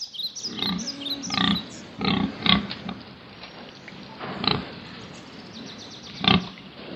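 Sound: pig oinking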